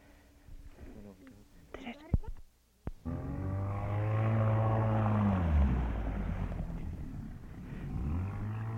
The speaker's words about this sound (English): After we'd sighted the seal again, Mike put into the canoe with the outboard motor and set off on his own in the direction where it was.